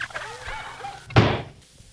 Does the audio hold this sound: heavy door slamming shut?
yes